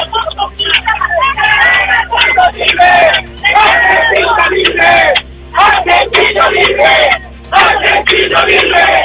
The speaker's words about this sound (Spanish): Bueno, este es el ambiente que se vive a esta hora aquí en el cruce del Molino Bío Bío, donde está esta protesta.